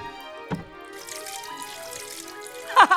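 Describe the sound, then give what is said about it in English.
Water wrung from a dew-soaked fleece splashes and trickles steadily into a bowl for a couple of seconds, moderately loud, over a soft sustained musical tone, ending with a brighter splash. “A bowl full of water.”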